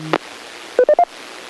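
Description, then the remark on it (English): Radio repeater courtesy tones: a short low two-note blip, then a quick run of three rising electronic beeps, clear over a faint static hiss, with no one talking. “No, I just heard a couple of the cover tones come up and wanted to make sure that the message was complete.”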